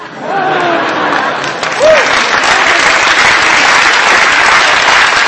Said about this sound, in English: Now, your clapping shows you haven't followed my argument, because these statements prove nothing in either direction.